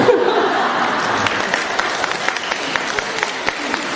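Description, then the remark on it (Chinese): Sustained audience applause: a dense wash of many hands clapping, with sharper individual claps standing out toward the end and a few faint voices mixed in. “是 是，人家鼓完掌了，你说是？”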